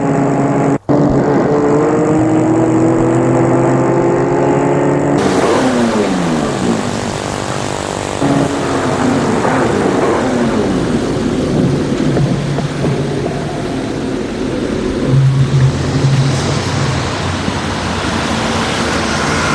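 A car engine drones loudly and steadily, its pitch climbing as it accelerates through the gears, with a sharp click near the start and no voices, as the car arrives in Paris in the early afternoon.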